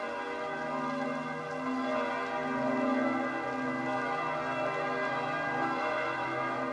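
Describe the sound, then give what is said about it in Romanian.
Church bells of St. Peter's Basilica ring continuously in a dense, overlapping peal, their sustained tones blending into a steady wash of sound at fairly even loudness, with no voices present. “De pe treptele Bazilicii San Pietro, în sunetul clopotelor și al sirenelor de salvare, Papa a binecuvântat cu Sfânta Euharistie orașul și lumea”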